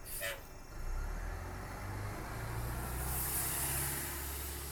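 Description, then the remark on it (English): TTC city buses rumble along a busy street in Toronto, a steady low engine drone with a brief hiss of air brakes at the start, heavy traffic noise filling the background. “TTC riders have been hearing the sounds of buses more often over the past few weeks.”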